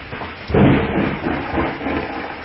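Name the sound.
thunderstorm with rolling thunder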